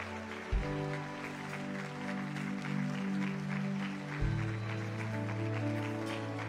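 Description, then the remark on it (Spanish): A crowd applauds the Lord steadily throughout, the clapping blending into sustained organ or keyboard chords that shift partway through, with no voices standing out over the music. “Vamos a darle este aplauso más fuerte al Señor.”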